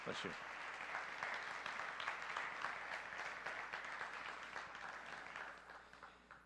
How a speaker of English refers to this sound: Bless your brother. Let's give him a round of applause for his courage.